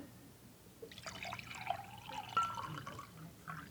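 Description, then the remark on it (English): Water pours steadily into a container for a few seconds, a bubbling trickle with small splashes and a rising gurgle as it fills, with no voices present. “And I want you to see what happens to this provision when I pour it.”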